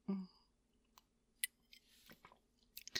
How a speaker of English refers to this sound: Why don't you have another sip to clear your head?